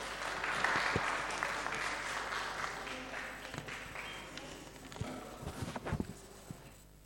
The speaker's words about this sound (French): Je vous demande de l'applaudir, s'il vous plaît.